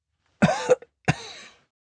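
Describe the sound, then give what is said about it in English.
A woman coughs twice, two rough, throaty bursts about half a second apart, fairly loud, with nothing else around them. “She paused to cough.”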